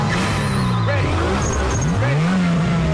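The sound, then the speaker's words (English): Four modified cars with chrome wheels launch down a street in a race, their revving engines roaring together with a screech of spinning, burning tires, the loud engine pitch rising and wavering as they accelerate hard. “Chrome wheels spin and rubber burns. The four modified cars shoot up down the street.”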